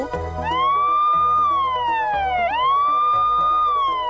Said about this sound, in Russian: А когда нам нужна сирена, говорите blue.